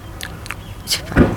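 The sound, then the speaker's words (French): Someone imitates a baby's small sucking mouth noise: a few quick, soft lip smacks and clicks in a loose rhythm, ending with one slightly louder wet smack. No words are spoken. “De succion, un petit bruit comme ça avec sa bouche.”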